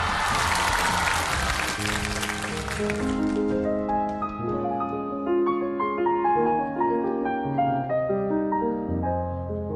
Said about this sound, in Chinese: 掌声欢迎他们。